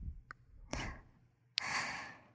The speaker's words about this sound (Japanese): でも、それって、私の吐息に、反応しちゃってることですね。